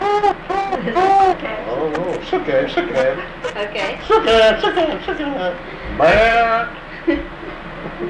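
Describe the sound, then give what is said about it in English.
A person gives a series of drawn-out, bleating calls, a voice imitating a calf to coax it to come over, repeated several times with short pauses between. “Yeah, how do you call him to get him to come to you?”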